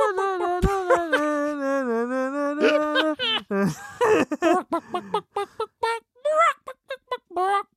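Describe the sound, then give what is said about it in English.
A person imitates a chicken, clucking out a Christmas carol melody: a held, wavering vocal line first, then a run of short, choppy clucks in rhythm. “Stop clucking it because it's making it worse.”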